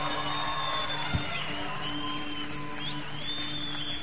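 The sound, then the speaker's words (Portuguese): A crowd cheers and claps steadily throughout as a band's front singer is introduced, with shrill whistles sliding up and down above the dense roar and a low steady hum underneath. “…, salve de palmas.”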